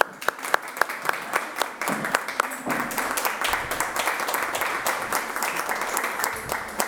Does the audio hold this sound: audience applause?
yes